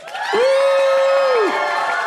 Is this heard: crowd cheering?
yes